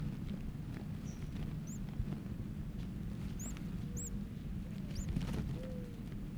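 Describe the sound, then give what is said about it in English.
Thin, high-pitched begging calls from a chick with its mouth open and head up, wriggling on paper: about five short rising peeps scattered irregularly over a steady low rumble, with no talking. “There it was begging again, open its mouth.”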